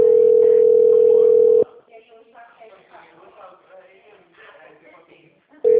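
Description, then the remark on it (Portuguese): A loud, steady telephone busy tone sounds for about a second and a half, then a recorded voice talks quietly before the tone cuts back in at the very end. “mensagem gratuita de telefone ocupado.”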